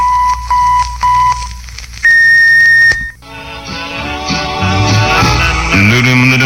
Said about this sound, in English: The KFWB electronic time tone is accurate to within 1/20,000th of a second. At the tone, exactly 1 minute before 7 o'clock.